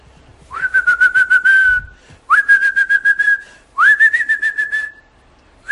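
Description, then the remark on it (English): A person whistles three long, steady notes, each sliding up at the start and then holding with a fluttery, pulsing quality. Short pauses separate them. Loud, with no talking. “He has thoughts, deeper machshavos than we've ever had in our life of shevach tashem, of karzatov, of bakashos, but whistling was his mode of physical action, physical tefillah.”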